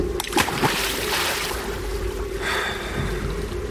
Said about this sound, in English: Eventually, with a strange calm, Andy picked up our radio, carried it over to the side of the boat, and dropped it into the water.